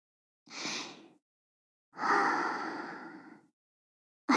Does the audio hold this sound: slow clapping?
no